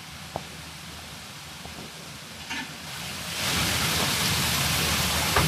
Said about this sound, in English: all the water that comes out of the spring is going through a Roman drain, a Roman overflow drain